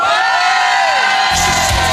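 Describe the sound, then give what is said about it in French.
A crowd on a boat cheering and whooping loudly, a dense wash of shouts with high excited voices, swelling further with a heavier rumble of noise toward the end. “Faites du bruit!”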